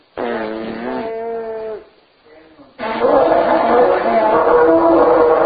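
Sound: shofar being blown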